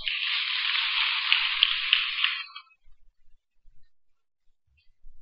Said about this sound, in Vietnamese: các quý Phật tử hãy dành một tràng vỗ tay thật lớn.